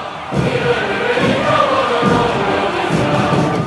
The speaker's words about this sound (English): At the military parade celebrating 70 years of Communist Party rule, crowds cheered, tanks rolled, and Xi Jinping smiled